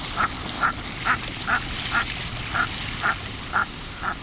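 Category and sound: bird, common merganser duck calls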